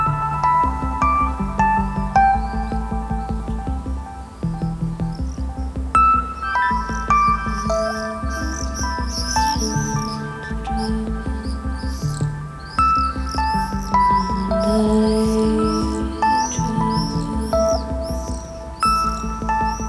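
Ambient meditation music plays on its own: layered sustained tones over a softly pulsing low drone, with high bird-like chirps fluttering through, steady and moderately loud throughout.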